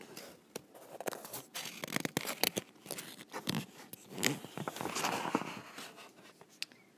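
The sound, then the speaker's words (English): A paper page of the book Duct Tape Engineer being turned slowly, with crisp rustling and crinkling broken by several sharp crackles and snaps, fairly quiet and with no voices. “Here we have the ASMR of turning the page.”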